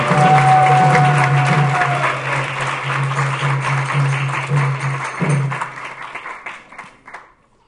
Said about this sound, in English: You should give them a big round of applause for enthusiasm.